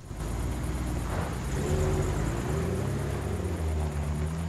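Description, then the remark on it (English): In the desert, Nick's pickup truck and Gina's car drive away from a trailer, their engines a steady, loud low rumble with droning tones that shift slightly in pitch throughout. No one speaks. “In the desert, Nick's pickup and Gina's car both drive away from the trailer.”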